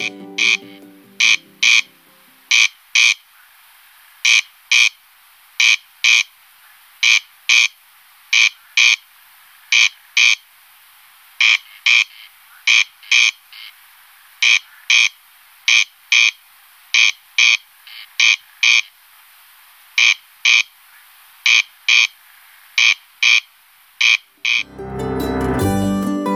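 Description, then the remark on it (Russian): A male corncrake calls loudly and repeatedly in the Artemovsky meadows, a dry rasping double note "crex-crex" repeated in a steady rhythm about every second, with no voices present; a brief low rumble opens and closes. “Артемовские луга оказались тем самым оптимальным местом для обитания карастеля”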